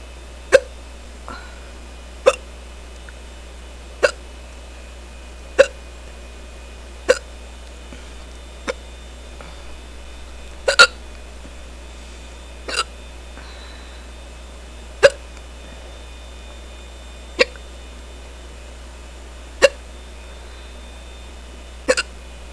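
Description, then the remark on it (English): A person hiccups repeatedly after drinking beer, roughly a dozen sharp hiccups spaced every couple of seconds in a steady rhythm, with a faint low hum underneath and no talking. “I'm surprised I got the hiccups so quickly this time.”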